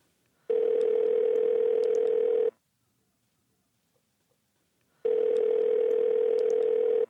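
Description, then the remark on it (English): A telephone ringback tone sounds twice during an outgoing call to a man's wife, each steady electronic burr lasting about two seconds, separated by a long silent gap, clear. “I think it's worth talking to my wife about this because I think we should call her up.”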